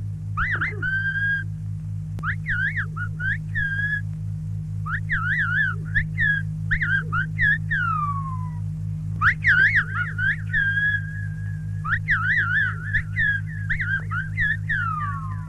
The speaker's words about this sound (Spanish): La Gomera es una isla abrupta y enriscada. Para comunicarse entre sí, los isleños poseen un extraño lenguaje silbado.